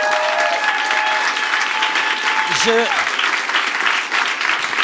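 Sustained audience applause for the venue staff fills the whole stretch, a dense, steady wash of clapping at an even loudness, with a brief whoop or cheer rising out of it midway.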